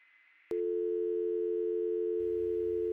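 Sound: telephone busy tone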